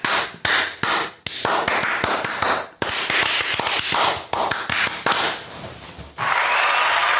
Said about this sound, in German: werden wir jetzt den absolut unwiderlegbaren Beweis erbringen und uns in die Hände klatschen.